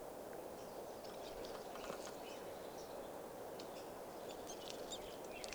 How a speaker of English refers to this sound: And I'm right underneath the birds, and they're about 30 feet up. So it's kind of hard to see what's going on. Yeah. Recording the birds that are foraging here, beginning to call. And there they go. There's a flock of about 10 birds.